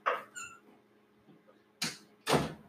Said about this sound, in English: Hold on, let me close this door. Hold on 1 second.